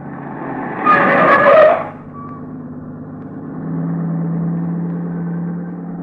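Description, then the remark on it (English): A new car roars past on the road, a loud engine rush swelling and fading within about a second, followed by a steady low engine rumble continuing underneath. “That car that just passed.”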